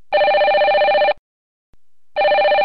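A mobile phone rings loud and close: a bright electronic tone sounding in roughly one-second bursts separated by a short silence, with no voices present.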